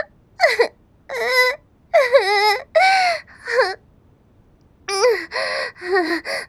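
A person sobs in a series of wavering, gasping cries, with short breaths between bursts, a brief pause partway through, then more broken, high-pitched weeping.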